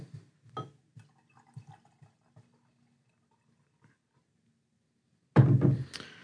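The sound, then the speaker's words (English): Cider pours into a glass: a few soft drips and light clinks, a quiet pause, then a sudden loud rush of liquid splashing in near the end. “I'm gonna take pictures of Joel opening this cider.”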